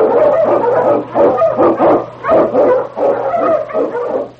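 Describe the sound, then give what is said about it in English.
King, a Malamute Eskimo lead sled dog, barks repeatedly in quick, loud bursts while blazing a trail through storm and snow in the Yukon, a steady run of about eight or nine sharp barks with brief gaps and a faint low hum underneath. “The Wonder Dog King, swiftest and strongest of Eskimo lead dogs, blazes a trail through storm and snow for Sergeant Preston as he meets the Challenge of the Yukon.”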